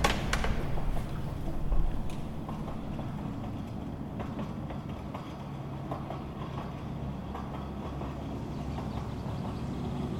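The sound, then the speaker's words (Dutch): A train of cattle wagons bound for Sobibor rolls slowly into Camp Westerbork with a steady low rumble, punctuated by irregular metallic creaks, clanks and faint squeals, continuous throughout, with no talking. “De trein die ons naar Sobibor zal brengen, komt piepend en krakend Kamp Westerbork binnenrijden.”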